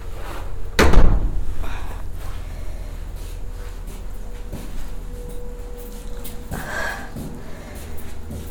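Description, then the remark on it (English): A door swings shut with one solid thud and click near the start. Then comes a stretch of quiet background with a softer knock or rustle later on. “This door is going to clip a little tiny bit higher.”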